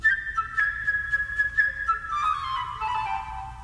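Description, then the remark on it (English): A flute plays the part of the bird in Peter and the Wolf: a high, bright, birdlike melody full of quick trills and fluttering runs, drifting lower toward the end, with no voices and a faint low hum beneath. “Now, the part of the bird is played by a flute.”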